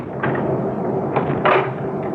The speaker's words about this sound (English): Honey, will you get the door closed and locked?